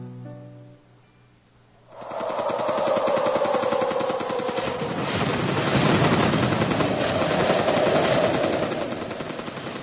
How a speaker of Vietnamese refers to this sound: Tiếng nổ khủng khiếp rung rinh nhà cửa khiến cho Thùy Dung giật mình.